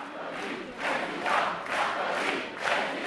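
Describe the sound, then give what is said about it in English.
A large crowd chants "Sarkozy, President" in unison at a political rally for Sarkozy in France, voices swelling and falling in a steady repeated rhythm, loud and broad with no single voice standing out. “As the crowd chanted, Sarkozy, President, everyone knew the real battle was yet to come.”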